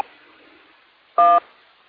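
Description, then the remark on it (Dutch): A single short, loud dual-tone beep like a telephone keypad tone cuts through faint, steady radio hiss during an amateur radio contact, beeping over a station's transmission, lasting about a fifth of a second with no voices. “De bereikte is overheen gepiept.”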